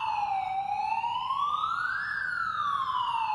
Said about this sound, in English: So they're all there, 300 plus, 400 plus, as the ship is going through testing all of its alerts and alarms. The radars are spinning. They had not been before.